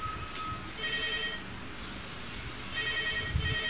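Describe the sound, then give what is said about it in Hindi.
A mobile phone ringtone plays in repeating bursts of high electronic tones, moderately faint, over a noisy background with no one speaking. “का फोन चालू है क्या?”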